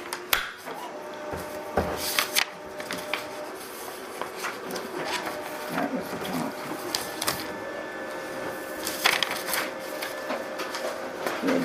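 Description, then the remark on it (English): A photocopier runs steadily, making a copy of each slide, with a mechanical whir and repeated clicks and clunks as pages feed through, with no one speaking. “Let me put that in the photocopier. Okay. Make a copy of each slide.”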